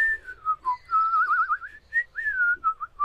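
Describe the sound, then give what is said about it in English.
A person whistles a short, wavering tune, the clear tone sliding and trilling through several quick phrases. The whistle is fairly loud, with no talking. “Hey, I just whistled.”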